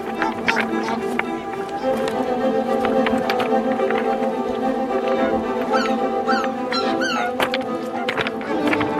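Footsteps crunch over a short stretch of loose pebbles in a wetland area in a steady walking rhythm, each step a sharp gritty clatter, with a constant rush of wind underneath.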